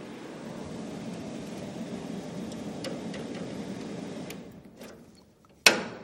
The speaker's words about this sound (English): Well, I'm going to turn the air conditioning off and hope that we survive, because it's very noisy.